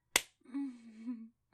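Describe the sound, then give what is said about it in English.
One sharp slap on the skin of a face cracks out alone, followed after a brief pause by a drawn-out, wavering vocal moan that fades away. “Slap me with that fucking dick of yours.”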